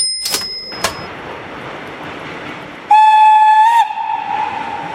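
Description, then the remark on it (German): The Fliegender Hamburger train to Hamburg rumbles along the rails on a trial run on 19 December 1932, with rhythmic clatter, two sharp bursts early on, then a loud, steady steam whistle sounds for about a second before the rolling noise continues. “Und jetzt sitzen wir im Zug nach Hamburg.”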